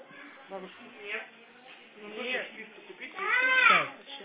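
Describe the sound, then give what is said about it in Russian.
A young child cries in a tantrum, wailing and sobbing in several uneven bursts that build to a loud, strained howl near the end, slightly muffled like a phone line. “Ну а мне вот это слушать, истерики?”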